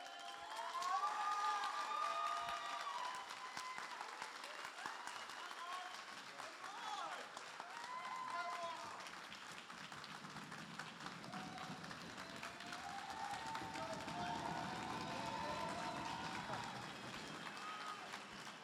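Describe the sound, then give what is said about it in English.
An audience claps and stomps their feet to rejoice over people being saved, in a steady, sustained burst, with cheering and shouting voices mixed throughout, loud for the whole stretch. “So that's why we're going to stomp feet and clap and be happy, because that's what heaven is doing at the moment.”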